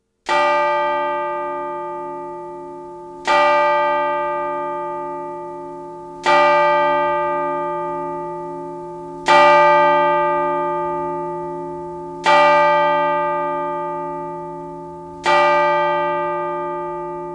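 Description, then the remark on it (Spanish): A single large church bell tolls slowly and solemnly at the end of US President Ronald Reagan's funeral, part of 40 tolls for the 40th president; six deep strikes about three seconds apart, each one ringing out loud and lingering into the next. No voices are heard. “Término del funeral, las campanas repicaron 40 veces en recuerdo del 40 presidente”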